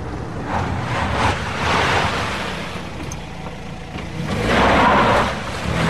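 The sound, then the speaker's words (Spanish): Steady rain pours down at night, around ten o'clock, in a dense, continuous hiss that swells louder around the middle and again near the end, with a low rumbling undertone and no voices. “Es de noche y llueve.”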